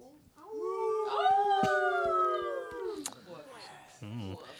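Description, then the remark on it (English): A person imitates a wolf howl as a sound effect for a story, with one long, drawn-out wavering voice that rises and slowly falls over about three seconds, loud, then trails off into breathy sounds. “this one is called The White Wolf”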